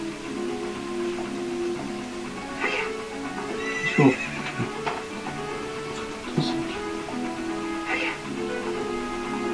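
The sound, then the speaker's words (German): A horse whinnies in drawn-out, wavering calls while its hooves clip-clop at intervals, with a few sharper hoof strikes standing out over a steady outdoor background. “Unser Pferd ist schon ein bisschen vorgelaufen.”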